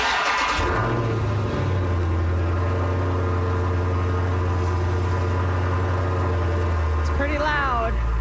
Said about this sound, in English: So this morning I recorded the startup of my car.